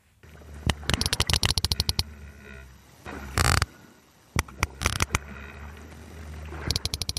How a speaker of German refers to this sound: Was Sie hier gerade hören, das sind Klicklaute von Pottwalen.